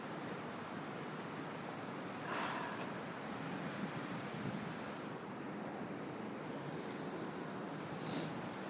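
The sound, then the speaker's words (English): A steady, dense wash of traffic noise at Vauxhall bus station in the morning, with a constant low roar and a couple of brief swells from passing vehicles. Nobody speaks. “But you can enjoy the sounds of Vauxhall bus station in the morning whilst I wait for some ridiculous amount of time for the bus to come along.”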